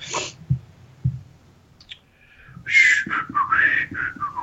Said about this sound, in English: It's the awesome part of the podcast where I just whistle because I'm thinking.